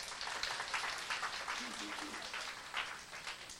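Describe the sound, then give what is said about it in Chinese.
A crowd breaks into applause for the men in the audience, who have raised their hands, a dense, steady patter of many hands clapping that rises in small bursts throughout, with faint voices murmuring underneath. “我们给男生举手，鼓掌好不好？”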